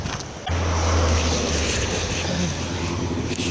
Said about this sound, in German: Und wir laufen jetzt auf der anderen Seite vom Fluss, der ganz schön viel Wasser führt.